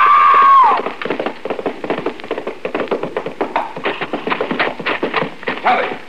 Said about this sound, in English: You were racing. The horse stumbled over that lower bar and threw her.